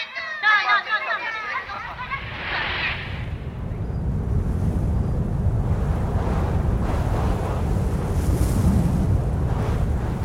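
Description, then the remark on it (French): Strong seaside wind roars steadily with a deep, blustery rumble and rushing surf, growing louder and fuller after a few brief high-pitched sounds at the start. “Malheureusement, il y a trop de vent.”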